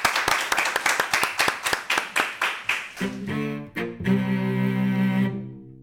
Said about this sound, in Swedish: Jag tycker att vi har applåderat oss själva. Ja, vi applåderar publiken.